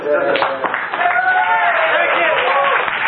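Sustained audience applause at a city council meeting, with clapping and cheering voices, loud and steady for about three seconds, with no pause in the noise.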